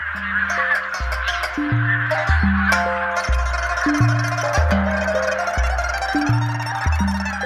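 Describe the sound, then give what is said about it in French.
A dense, continuous chorus of migratory birds calling at Wolong Lake in Liaoning province, northeast China, many harsh honks and caws overlapping, fairly loud and steady, with a slow stepping low musical tone running underneath. “Les oiseaux migrateurs sont de retour au lac Wolong.”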